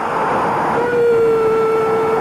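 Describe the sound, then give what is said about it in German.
A dense, steady roar of a stadium crowd after an Estudiantes goal against AC Milan in the 1969 Intercontinental Cup, with a sustained horn-like tone rising out of the noise midway and holding to the end; no one speaks. “Hörst du die Kulissen?”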